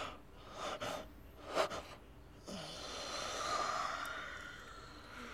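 Several figures yawn quietly and breathily with a few sharp intakes of air, then a long, drawn-out exhale trails off into slow, sleepy breathing as they are about to fall asleep. No one speaks.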